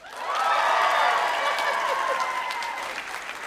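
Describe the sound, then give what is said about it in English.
An audience applauds to vote for Psycho and Wisconsin Murder as most frightening, steady dense clapping for a few seconds with a few scattered cheers mixed in, fairly loud, tapering slightly toward the end. “Oh, that's sympathy applause.”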